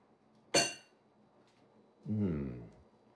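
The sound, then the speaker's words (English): A single bright clink of wine glasses tapping together in a toast, sharp with a short ringing decay, followed a moment later by a brief voiced murmur. “I think a glass for you and a glass for me. Yes. I think that is awesome. Here. There you are. After a long day. Cheers.”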